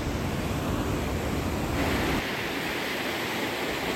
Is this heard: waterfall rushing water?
yes